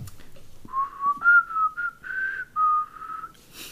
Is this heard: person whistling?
yes